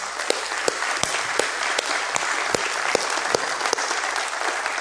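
An audience applauding the Lord together, a dense, steady wash of many hands clapping with sharper individual claps popping out irregularly, sustained at an even loudness for several seconds with no voices.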